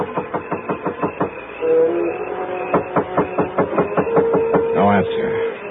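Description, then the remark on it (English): Rapid, even knocking on the front door of a small house at 124 North Bundy comes in two quick runs of raps separated by a short pause, with a steady low hum and tonal ringing underneath. “There were no lights on, but I went up to the front door and knocked.”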